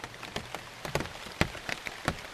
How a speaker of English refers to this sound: And each plant has its own sound that relates to the shape and the size of the leaf. How thick is it? So here we're hearing the big raindrops falling from high in the canopy.